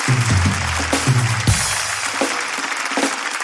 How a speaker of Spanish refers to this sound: Apoyen al buen compatriota, carajo, que está concursando allá. Un fuerte aplauso para él.